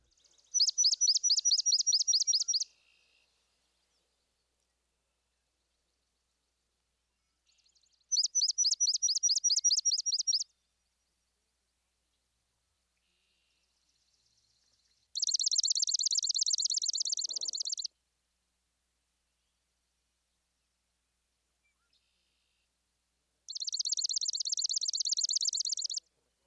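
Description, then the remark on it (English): A swamp sparrow sings four separate chipping, reedy trills, each a few seconds long with quiet gaps between. The first two are slower and distinctly pulsed; the last two are denser and more buzzy. Clear. “First, the slow chipping and reedy trill of the swamp sparrow.”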